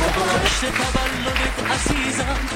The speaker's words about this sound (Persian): تشویقش کنیم. مرسی.